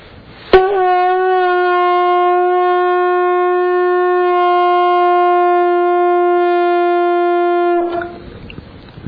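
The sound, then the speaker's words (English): A conch shell blown at about 5 a.m. in a temple that keeps an elephant: one long, loud, steady blast of about seven seconds, a rich buzzing horn tone with a fixed mid pitch that ends abruptly. No one speaks. “And this is a conch shell they would love.”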